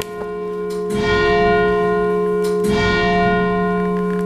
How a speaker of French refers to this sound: La cloche, qui a un très joli son. Après avoir entendu donc, le son de ce clocher, nous sommes sous les cloches, c'est-à-dire dans le narthex, dans l'entrée de l'église de Saint-Cyr, où est placée cette plaque.